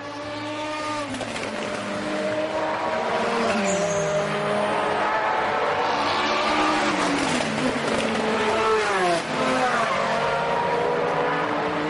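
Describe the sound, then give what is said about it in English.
A race car engine screams through the Terre Rouge right-hand corner, its pitch dipping briefly under a slight dab of the brake then climbing hard as it accelerates at full throttle over the bumps onto the public road toward the Mulsanne Straight, loud and continuous with a faint tire squeal layered in. “Slight dab of the brake, whip it to the right and floor it on the exit as the corner opens up over the bumps.”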